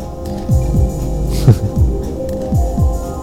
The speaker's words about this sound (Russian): Ну, бывает, там, какие-то шаманские, да, ритмы, они как раз наоборот вводят в такое состояние транса. Правда, они должны быть немножко более гулкими тогда. Должно быть, там, например, вот так.